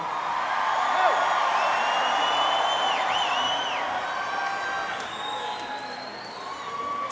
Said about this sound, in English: It does not take long for this crowd to get hopped up